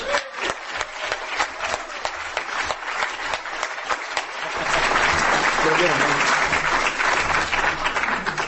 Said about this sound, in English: So next up, and I'd like you to outdo yourselves on the applause this time